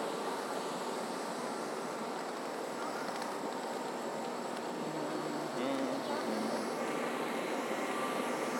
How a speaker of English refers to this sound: The front of the train because it has a big fan blowing. Let's take a photograph of that.